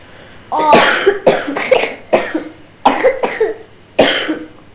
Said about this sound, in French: Ah, je suis malade. T'es malade? Ah, oh, bah si je tousse, c'est que je suis malade.